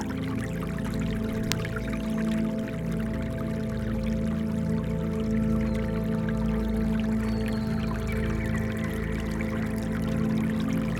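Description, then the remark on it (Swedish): Holy spring water from a source flows steadily through a garden, a constant trickling wash that never pauses, layered over a low, sustained humming drone. No voices are present. “Men också det heliga vattnet. Från källan. Som rinner genom hela trädgården.”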